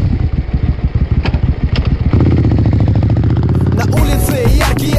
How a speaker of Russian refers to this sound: Ну давай, давай, завожу мотор.